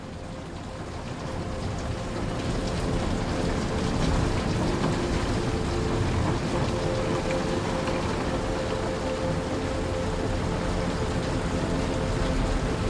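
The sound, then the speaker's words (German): Steady rain at night patters softly against windows, a dense, even wash of tiny taps that swells in over the first couple of seconds and then holds constant, with no voices. “Es hat zu regnen begonnen und die Regentropfen klopfen leise an die Fenster.”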